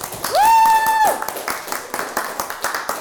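audience cheering and applause

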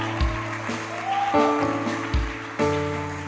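audience clapping hands

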